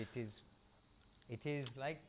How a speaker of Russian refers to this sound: Может быть, вы слышите цикады и насекомые вечером.